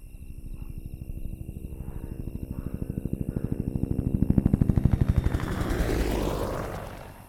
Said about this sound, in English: Mum, Linda, Chris and Nung get into the helicopter and the helicopter leaves.